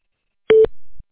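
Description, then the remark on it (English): A single short electronic beep, a clean steady tone lasting a fraction of a second, clear, a phone voicemail prompt signaling recording has begun, followed by quiet. “Please leave a detailed message to stand on the beep, and I will be sure to return your phone call upon my earliest convenience.”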